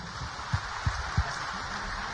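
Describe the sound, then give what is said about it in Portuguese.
A steady wash of crowd applause for two young singers about to perform, dense and crackling like rain, holding an even level throughout, with three soft low thumps spaced evenly in the first half. “Vamos aplaudir esses meninos.”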